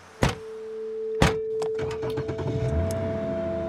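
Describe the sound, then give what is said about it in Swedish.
A 50-year-old man and his 24-year-old son get into a car in Australia: two solid car door thuds close together, followed by small clicks and rustles inside the vehicle and a steady low engine hum starting up, with no talking. “En 50-årig man och hans 24-årige son sätter sig i en bil.”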